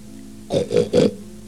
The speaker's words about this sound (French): Un cochon.